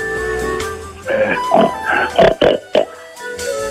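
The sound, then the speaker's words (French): A pig oinks and grunts in a quick run of about five short, fairly loud bursts, set against a steady low background tone that continues before and after. “son fait le cochon?”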